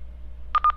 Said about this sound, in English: As you heard it say, it said function select. 2 to 3 seconds later, beep, beep, beep. It jumped back out of the menu.